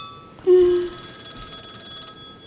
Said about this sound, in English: do you hear a telephone ringing? I did a little while ago. No, I can't. Well, now, yes, I do. No. Well, it's very far away. That's my bedroom telephone.